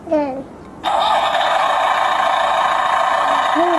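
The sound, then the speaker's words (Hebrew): A loud, steady tractor engine rumble from a children's picture sound book switches on abruptly when the tractor is pressed and runs continuously, sounding tinny and electronic like a toy's speaker, with a child's brief voice just before it and faintly near the end. “איזה קול נחמד יש לטרקטור.”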